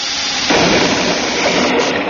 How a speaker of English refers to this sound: Great galaxy, what was that? Sir, that explosion came from below.